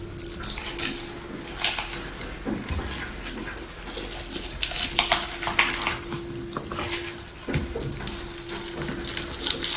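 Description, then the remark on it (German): Washed young leaf spinach and banana pieces are dropped into a small blender jar, with soft rustles, light thuds and occasional clinks repeating over a steady low kitchen hum. “So, packe ich jetzt den jungen Blattspinat dazu. Der ist auch gewaschen. Bisschen Banane, bisschen so ein Wechsel.”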